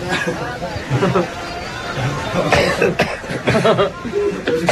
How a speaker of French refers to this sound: Pourquoi on tousse ? Ça doit être le sésame. Ou la moutarde, peut-être.